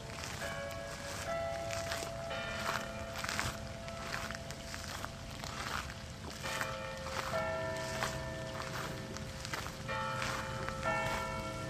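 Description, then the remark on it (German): Church bells ring from an added-on bell tower in the palace park of Salem, near Lake Constance in the Linzgau, at a former Cistercian monastery with a castle and minster. They ring continuously in overlapping, resonant strikes with long sustained tones, outdoors, with faint footsteps and rustling. “ein aufgesetzter Glockenturm”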